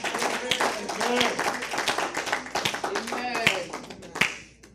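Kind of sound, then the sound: human body sound, hand clapping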